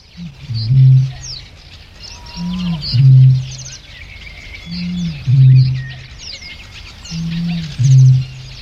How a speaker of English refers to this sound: Here's the deep, booming call of a bittern recorded in Norfolk, England. This is in 1966.